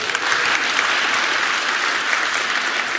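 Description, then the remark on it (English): A crowd claps steadily, a dense, even wash of many hands applauding at a fairly loud level for about three seconds, with no voices standing out. “Let's give Ellie a round of applause.”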